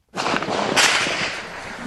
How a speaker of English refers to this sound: The Central African Republic has been really in a rough state lately. CNN reporter Nima El-Baghir caught gunfire on Monday, reporting near the city of Bosangoa.